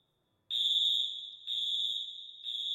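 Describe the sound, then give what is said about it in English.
A school fire alarm in Littleton, pulled by someone during gunfire, blares a piercing high-pitched electronic tone repeating in long pulses roughly once a second, loud and steady with no voices. “Someone pulled the fire alarm.”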